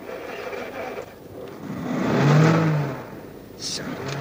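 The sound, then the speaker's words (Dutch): A heavy truck engine with a cargo bed, started without a key, turns over and revs up, its low rumble swelling to a loud peak midway before easing back down, with some faint hissing noise near the end. “Ja, maar hoe wil je me nou starten zonder sleuteltje?”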